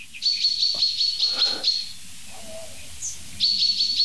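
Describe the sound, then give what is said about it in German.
Shrill, high-pitched alarm chirping in rapid repeated pulses, sounding in one long burst, falling quiet for a moment, then starting again, with faint low background noise underneath and no one talking. “Ich werde versuchen, diesem Alarm noch ein bisschen auf den Grund zu gehen.”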